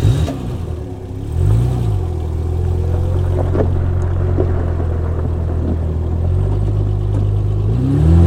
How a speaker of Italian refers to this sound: Con decisione salgo in auto e parto.